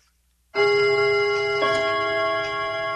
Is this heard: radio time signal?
yes